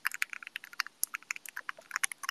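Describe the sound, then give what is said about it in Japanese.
Rapid, irregular clicks and clacks of someone typing on a mechanical keyboard with Gateron Black Ink V2 switches and 60 gram springs, crisp, with dozens of keystrokes in quick succession and no voices. “My keyboard makes such a nice sound. The current switches I use areGateron Black Ink V2s with a 60 gram spring inside, but I think I'm gonna go somewhere lighter this time.”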